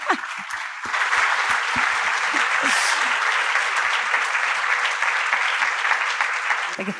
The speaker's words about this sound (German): Vielen lieben Dank. Dein Applaus.